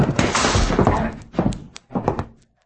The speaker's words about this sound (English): I'm going to shove them all into this vault and slam the door.